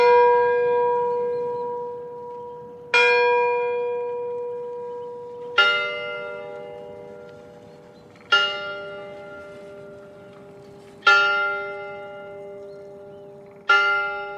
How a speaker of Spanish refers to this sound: Sonaron las primeras campanadas de la medianoche en la torre de la iglesia del pueblo cuando la pareja se dio el primer beso.